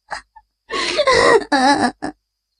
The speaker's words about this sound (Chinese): 哭声越来越大。